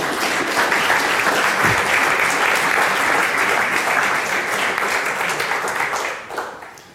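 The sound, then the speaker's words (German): Sustained audience applause, a dense, steady wash of many hands clapping at fairly even loudness for several seconds before tapering off at the end. “Applaus, Applaus. Vielen Dank.”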